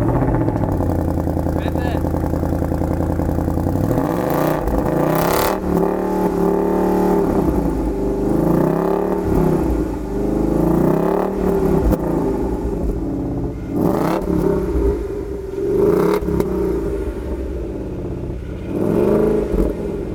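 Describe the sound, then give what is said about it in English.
A Ford Mustang V8 engine revs loudly, its deep rumble climbing and dropping in repeated surges between steady idling, with no one talking over it. “It's the Ford Mustang V8. David Brown has had the keys to the pony car.”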